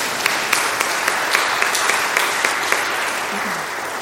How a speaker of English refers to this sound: Amen. We can clap for that. That was beautiful.